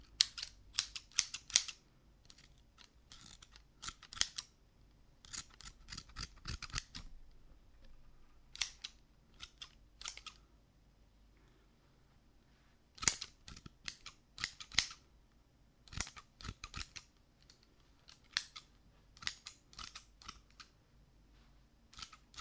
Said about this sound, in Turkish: Makas güzel değil mi?